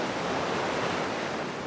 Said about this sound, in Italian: Le onde del mare possono fare tante cose. Possono cullarci, magari mentre siamo sdraiati su un materassino gonfiabile, oppure le onde possono far cappottare un'imbarcazione, speriamo non la nostra.